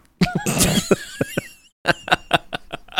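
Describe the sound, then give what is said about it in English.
Someone vocally imitates a man's burp-cough, like coughing up a hairball: a rough, gurgling burst with strained, wavering squeals, then after a brief pause a string of short, choppy hacks, fairly loud. “He fucking coughed a hairball. He burp coughed.”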